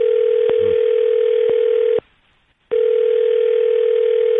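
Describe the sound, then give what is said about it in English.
A steady, loud telephone dial tone hums continuously as a phone call is being placed, punctuated by a few faint clicks, then cuts out for under a second before resuming unchanged. No one speaks. “We're going to make the phone call for you.”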